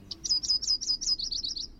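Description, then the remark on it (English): A yellow-rumped warbler sings a quick, evenly paced series of about ten high, bright chirping notes, forming a short trill with no voices over it. “You'll pick up on the silly slang that birders use as you go, like calling the yellow-rumped warbler butterbutt.”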